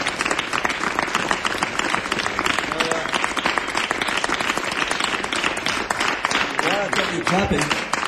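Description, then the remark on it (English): An audience applauds steadily for about eight seconds, many hands clapping in a dense, unbroken patter at an even loudness, with brief bits of voices and cheering mixed in. “I think I'd like you to keep clapping if you would.”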